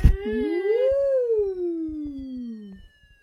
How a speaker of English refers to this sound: How about Fred's Fire Engine, an old favourite, huh? Oh, look, here he is. That's the siren.